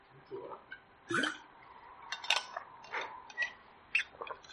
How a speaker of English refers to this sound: Excuse me, let me just have a sip of water and stop coughing all over the place.